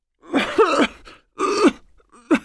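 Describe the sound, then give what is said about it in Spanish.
An elderly woman, a grandmother with a winter cold who has been coughing since the start of the month, coughs three times, fairly loud, with rough, voiced, groaning bursts separated by short pauses; the last cough is brief. No one speaks. “Abuela, es mejor que cuides esa tos.”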